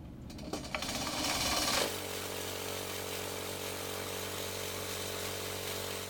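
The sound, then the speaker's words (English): A lab blender grinding mosquito samples from three vials whirs up with a rising, gritty grind, then settles into a loud, steady electric hum with a low drone that runs for several seconds, without any talking. “This is basically a mosquito blender.”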